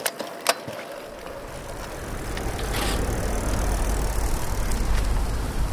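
A bicycle rolls steadily along an asphalt path through scrub and young forest beside a lake, its tires giving a continuous rushing hiss with a low rumble that grows slightly louder after the first second; a couple of sharp clicks sound early on. No one speaks.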